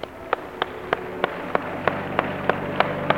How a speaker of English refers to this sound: Let's give the Lord a hand clap for all three of them.